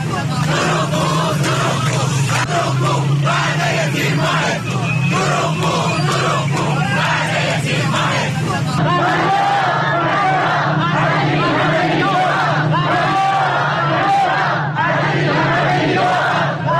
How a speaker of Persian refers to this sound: بازنشستگان در تجمعات خود برابر سازمان برنامه و بودجه شعارهایی چون فریاد فریاد از این همه بیداد و دروغگو دروغگو وعده تیر ماهت کو سر دادند.